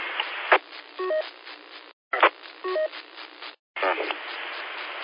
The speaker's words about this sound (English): It's been acting like that for the last few days. I keep, you know, just bits of static. No audio or sound like anybody's trying to transmit. Just static and punching their, breaking the receiver.